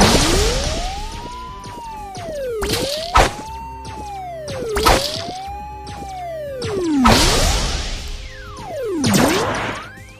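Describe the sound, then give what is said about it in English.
Electronic sounds from the Breakout video game of a bouncing ball: swooping tones that rise and fall in arcs, punctuated by several sharp, noisy crashes as it flies up into the ceiling and strikes the walls, loud, with no talking. “Ball flying up into the ceiling and smashing into the walls as usual.”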